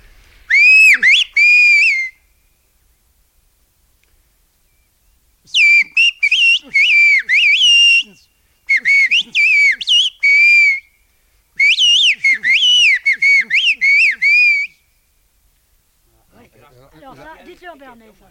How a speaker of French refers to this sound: Vous avez d'abord fait un sifflet très court au début.